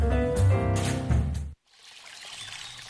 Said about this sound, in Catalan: Així sona una bona hidratació. Així sona l'aigua del Parc Natural del Montseny.